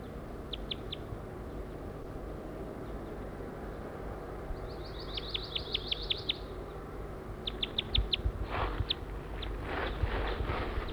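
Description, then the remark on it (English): A wild bird calls in short bursts of high, thin chirps, quick runs of several notes with pauses between, over a steady low rumble of background noise. “pointed at a wild bird.”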